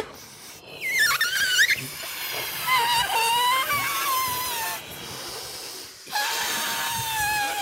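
Someone blows air by mouth into limp, empty balloons, with breathy puffs and high, wavering rubbery squeals that rise and fall over several seconds, fairly loud.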